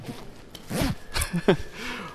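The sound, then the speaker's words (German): A jacket zipper is pulled shut in a few quick, rasping strokes, with short pauses between the bursts and no one talking. “Ich mache mal den Reißverschluss zu. Hört das hier.”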